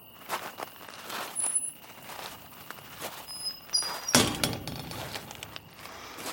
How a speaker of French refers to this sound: Ça y est, tu m'as ouvert la porte.